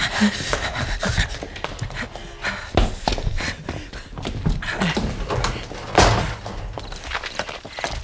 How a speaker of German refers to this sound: Ich meine das Geräusch, das ich gerade gehört habe. Hinter dieser Wand hier. Ja? Genau hinter dieser Wand da. Da hat eine Tür gequetscht. Und... Oh, hörst du die Schritte?